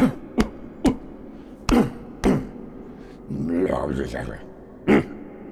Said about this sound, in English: And bang your chest.